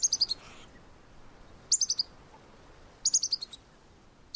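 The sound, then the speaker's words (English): Short bursts of high, sharp chirping notes from a bird repeat about every second and a half, each burst a quick rapid series, clear over a quiet background: a specific aerial alarm call given against birds of prey. “So they are very vulnerable to aerial predators, so birds of prey, and then they give us a specific aerial alarm call.”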